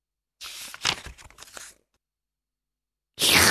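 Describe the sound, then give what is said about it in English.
Loud crunching as peanuts are eaten, in a quick flurry of crisp bites lasting over a second, then a pause before another loud burst of crunching begins. “Slurp, went Wolf, and he ate them all up. Oh, said Bear, no peanuts left for us.”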